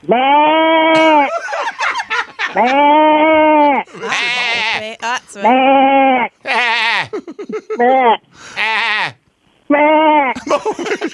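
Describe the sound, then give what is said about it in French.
A man imitates a goat with a series of loud, wavering nasal bleats, about six drawn-out calls with short gaps, with brief breathy sounds in between. “Ah oui, peux-tu faire la chèvre?”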